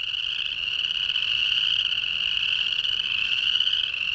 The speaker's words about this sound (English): I recorded these chorus frogs in northern Utah at a big marsh near the Great Salt Lake. This is their spring mating ritual, and they gather together in an amorous frenzy of loud choruses.